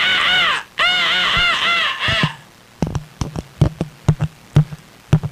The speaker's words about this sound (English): The monkey is going insane. The phone monkey is going insane and punching the microphone.